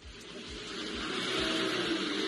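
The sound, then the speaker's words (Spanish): A car engine revs and strains as it accelerates up an icy garage ramp in snowy weather, a broad hissing roar over a low rhythmic throb that grows steadily louder over a couple of seconds, with no voices. “me ha hecho mucha gracia uno de el tío este valiente que ha tratado de sacar el coche por la rampa helada del garaje.”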